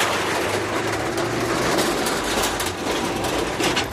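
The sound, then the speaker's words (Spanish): The heavy door of the Casal de COPE at COPE radio in Valencia creaks open with a steady, rough grinding rumble that holds at an even loudness for about four seconds, with no voices over it. “Una puerta, por cierto, que un poquito de aceitito no le vendría mal, ¿eh? Porque está la pobre, que hace un ruido y pesa, ¿eh?”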